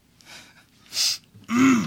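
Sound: sniffling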